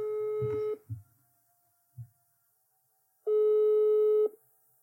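A telephone ringback tone sounds twice as a call is placed from Västberga police station, each a steady electronic burr about a second long with a pause between, mixed with a few soft thumps and handling noises.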